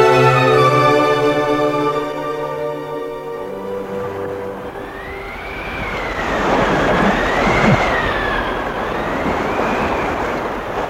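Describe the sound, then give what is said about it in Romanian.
A sustained tonal drone fades into loud, rushing wind on the seashore at night on the island of Jersey, with a rising and falling howl over crashing surf. The roar swells and eases steadily, with no voices. “Aici e vântul aici pe malul mării.”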